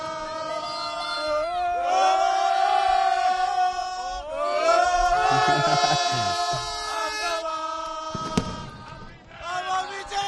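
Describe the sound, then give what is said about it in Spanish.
A street crowd in the city of Girona, celebrating Básquet Girona and Girona FC, chants and cheers in loud, continuous bursts, many voices rising together in sung, rhythmic shouts with a sharp clap or bang partway through. “Y bueno, acá vas a ver un poquito de gente que te va a empezar a cantar.”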